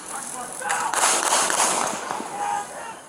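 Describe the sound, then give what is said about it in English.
Several sharp, cracking gunshots from a security video, fired by police after Rayshard Brooks fired a taser during a scuffle, going off in quick succession over a hissy, noisy background, muffled as if picked up by a low-quality recording. “And you can see an illumination from the taser being fired. And then gunshots.”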